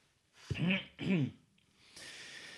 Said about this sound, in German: Moment, ich muss mal kurz räuspern.